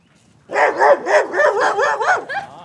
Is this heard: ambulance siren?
no